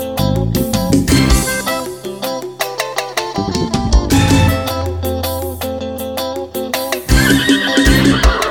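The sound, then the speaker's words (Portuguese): A horse whinnies with a wavering, shaky pitch, layered over loud, busy music with a steady bass line; hoof clip-clops may be mixed in but are not distinct. “Meu transporte não é carro nem lancha. Eu gosto mesmo no cavalo, mansinho em prancha, papai.”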